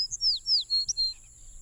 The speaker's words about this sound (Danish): I det fjerne hørtes fuglekvider.